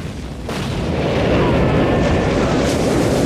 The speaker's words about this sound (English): The American gunboat explodes.